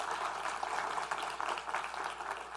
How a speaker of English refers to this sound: give him a clap too and welcome him to Hartsville.